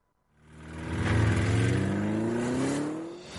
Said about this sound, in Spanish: Audi Retail Madrid vuelve con los motores encendidos.